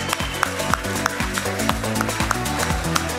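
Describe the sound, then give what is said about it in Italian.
An audience breaks into steady applause as a teacher is invited onto the stage, a dense wash of many hands clapping at once, with a low tonal murmur running underneath throughout. “Un applauso, che è sempre qui con noi ogni anno.”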